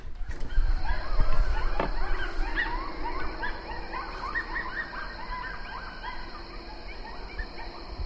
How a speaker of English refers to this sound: Boy, those are close. We got coyotes.